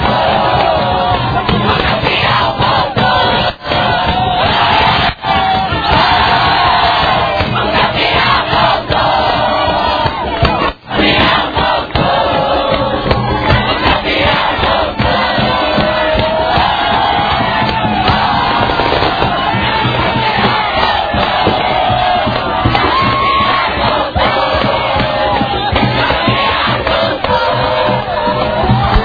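A huge football crowd celebrates at the end of the match as the Elísio Medrado team wins the 2016 title, roaring, cheering and chanting without pause, loud and dense for the whole half-minute, with a few sharp pops cutting through the din.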